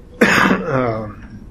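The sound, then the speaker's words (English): A single harsh cough bursts out abruptly, then trails into a raspy, voiced throat clearing that fades over about a second, with no talking. “if my cough gets me tonight, you just finish the class, will you?”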